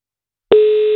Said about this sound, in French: Votre téléphone va sonner dans quelques secondes.